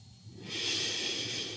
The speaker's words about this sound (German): Nehmen Sie einen tiefen Atemzug und atmen Sie mindestens doppelt so lange wieder aus.